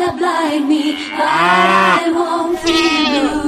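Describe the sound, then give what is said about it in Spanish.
A flock of 600 sheep belonging to Manuela Carmena bleating loudly as they arrive at the Casa de Campo, many overlapping calls running together in a continuous chorus for a few seconds, with no one speaking. “Pues bueno, hasta aquí el relato de la Vuelta Ovejista España, la llegada al sprint a la casa de campo de las 600 ovejas de Manuela Carmena.”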